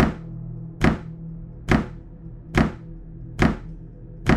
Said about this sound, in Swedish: Det är som rytmiska dunsar. Precis som en visa omslag. Det går i samma takt hela tiden. Och slutar inte förrän som 10-15 minuter.